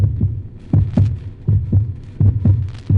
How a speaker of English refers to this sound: Doctor, that's my heart beating like a drum in my ears. It's loud, so loud. Can't you hear it?